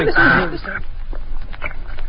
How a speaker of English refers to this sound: Now that is a budgie.